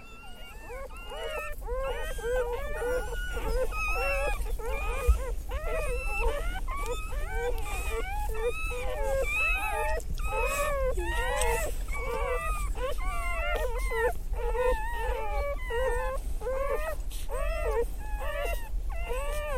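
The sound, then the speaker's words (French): High, wavering whimpers and squeals from several newborn puppies overlap continuously with their mother's occasional moans, slightly resonant, inside the hollow trunk of a chestnut tree where she had just given birth, on a January day. “Une chienne venait de mettre bas, à l'abri de ce tronc creux.”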